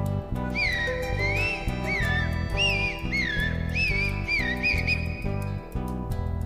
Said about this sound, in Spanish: Canta el zorzal.